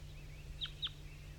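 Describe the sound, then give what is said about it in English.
A male wild bird, the one singing earlier, gives two short, high chirping calls in quick succession to other wild birds down the hollow at about 8:07, fairly faint over a steady low hum, with no one speaking. “It's 8:07 now, and the wild bird male that was singing before is also calling now. to some other wild birds down the hollow.”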